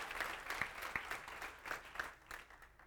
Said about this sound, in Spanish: Un aplauso para Cristo Jesús para eso.